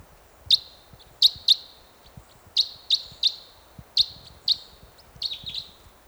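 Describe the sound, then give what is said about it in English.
A single bird perched in a tree above a net site gives a series of sharp, high-pitched chirps, about a dozen short calls in irregular pairs and singles, clear against a quiet, low background hum with no talking. “One bird perched in a tree above the net site now.”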